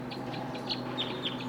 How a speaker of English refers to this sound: The wild birds are calling loud now. Looks like they're probably going to take off.